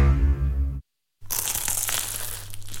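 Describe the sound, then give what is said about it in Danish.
A low humming tone cuts to a brief silence, then a crisp crunch and flaky crackling of someone biting into a croissant in Paris continues steadily to the end, with no voices. “Dette er lyden af dig, der tager en bid af Paris' lækreste croissant.”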